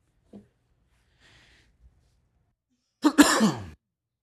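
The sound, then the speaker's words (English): A single loud, harsh cough, preceded by a faint throat noise and a brief quiet stretch, with no talking. “I think I turned it off and back on when I coughed.”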